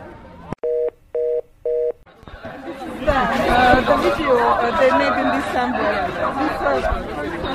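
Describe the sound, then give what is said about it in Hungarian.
Three short electronic beeps ring out at the start, then a loud, dense crowd of marchers on Közraktár utca chattering and calling out all at once as they move along the right side of the road toward Boráros tér, continuing steadily to the end. “Úgyhogy a tömeg az út jobb oldalán halad, a Boráros tér felé.”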